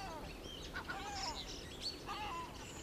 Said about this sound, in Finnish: Talon ja saunarakennuksen räystäspääskyt rakentavat innolla pesiään. Ne ovat uskomattoman pelottomia. Välillä pääskyt visertävät railakkaasti ja sitten taas tempautuvat työn aherrukseen.